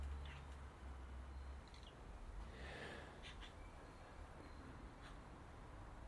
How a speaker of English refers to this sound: As a maggie squawks quietly, oh no, now it's louder, up in the tree